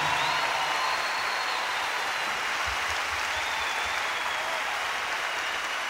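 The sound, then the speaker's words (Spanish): A crowd claps steadily and continuously for several seconds for the Venezuelan musicians of a symphony orchestra, a dense, even wash of applause with no voices standing out. “Yo quiero que me le den un aplauso a estos músicos venezolanos que componen esta orquesta sinfónica.”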